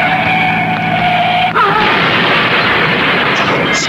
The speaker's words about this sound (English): Crashed and burning. Let him. Let him burn.